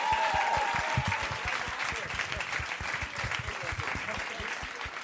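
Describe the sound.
An audience claps steadily throughout, a dense patter of many hands, loud and sustained. A brief voice cuts through near the start.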